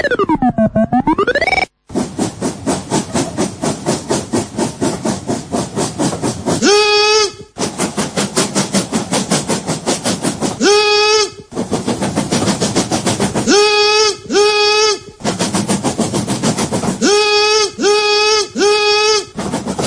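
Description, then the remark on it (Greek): Adonis imitates a train, with a steady rhythmic chugging broken by loud, repeated whistle-like blasts, some in quick groups of two or three, all prominent with no other talk. “Είχαμε τον Άδωνη να κάνει το τρένο.”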